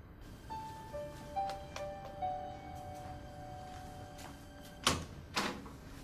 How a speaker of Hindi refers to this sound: दरवाजे पर हो, अभी खोलता हूं।